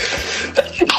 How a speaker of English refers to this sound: There's no real point to that other than I wanted to play him sneezing and coughing during the COVID question.